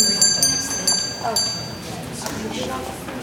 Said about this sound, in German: So hört sich ein Einkaufszentrum normalerweise an.